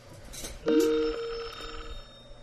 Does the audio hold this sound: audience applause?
no